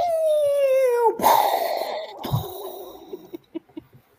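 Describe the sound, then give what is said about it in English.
A voice imitates a boat being sunk in a game of Battleship: a long, steadily falling whistle-like tone, then a noisy, sputtering burst and a few scattered popping sounds as it fades. “When your boat gets sunk, you have to go.”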